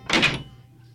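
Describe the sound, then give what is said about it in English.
An unlocked prison door opens with one short, solid wooden thunk and a brief scrape, fairly loud. It fades quickly into a low, steady background hum. “But aren't you going to close and lock the door?”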